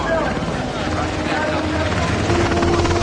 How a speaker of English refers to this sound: A helicopter flies over the snow-covered U.S. refugee camp in Mexico.